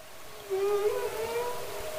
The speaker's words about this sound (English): And the sounds that humpback whales make and other marine mammals make, they're not just for fun. They're very important.